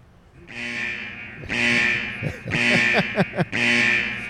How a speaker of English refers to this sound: And also, do we have a curb alert alarm there